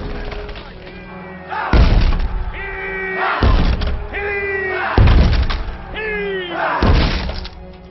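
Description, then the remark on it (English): Four heavy booming thuds as Stannis's forces ram a city gate with a battering ram, striking at a slow, steady rhythm, each one loud with a crack and rumble, over a low background din of voices and commotion. “That's your gate he's ramming.”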